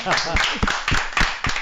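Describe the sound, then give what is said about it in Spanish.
An audience applauds in a dense, steady wash of clapping, with stronger claps standing out at a roughly regular rhythm and voices calling out over the noise. “Venga, un aplauso.”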